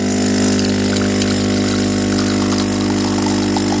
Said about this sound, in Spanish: Bueno, te quiero hacer una pregunta en este momento, porque ¿qué es lo primero que haces cuando te levantas? ¿Quizá esto? ¿Abrir el grifo y darte una ducha?